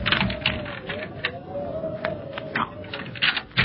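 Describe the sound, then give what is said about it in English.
A key rattles and turns in a lock, producing a series of sharp metallic clicks and scrapes over a faint, steady background hum. “This key fits.”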